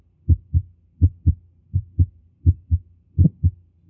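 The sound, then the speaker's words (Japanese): A steady heartbeat recorded through a stethoscope, first and second heart sounds with a sharp ejection click, each beat a low thudding pair repeating about every three-quarters of a second, with no talking. “さて、これはいわゆる屈出性のクリック音、0コンマ0.7 秒の分裂があるわけですね。”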